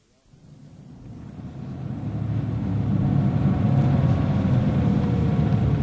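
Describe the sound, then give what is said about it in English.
A car engine rumbles low and steady as the vehicle drives and pulls up at Heddle Mews, swelling louder over the first few seconds and then holding a constant drone with no voices. “Here we are, sir. Heddle Mews. We'll stay in the car for a minute.”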